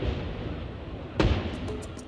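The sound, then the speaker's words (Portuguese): A single sharp firework rocket bang bursts out over a steady low rumble, followed by a few faint, quick crackling pops trailing off. “O medo é tão grande que Gabriela percebe o som de um rojão quando ninguém por perto mais ouve.”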